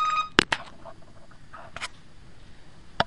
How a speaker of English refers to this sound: People, excuse me, I don't turn off the phone.